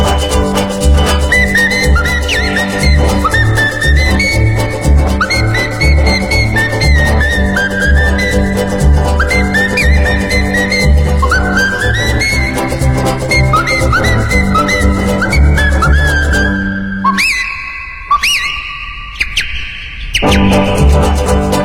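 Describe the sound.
A bright, bird-like whistled melody trills over a full band accompaniment, then near the end breaks into short, chirpy whistled phrases with brief pauses, imitating birdsong.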